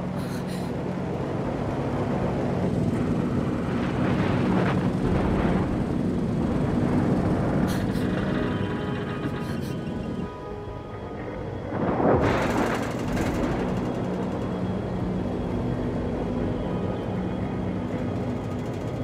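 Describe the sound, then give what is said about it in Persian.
A steady, loud propeller-engine drone roars throughout, with rumbling bursts of thunder and wind swelling over it several times: a propeller plane flying through a heavy storm, with ice formed on its propellers striking the fuselage. “نباید بریم پایین تر، اینجا هیچی نمیتونین ببینیم. باید بالای طوفان پرواز کنیم.”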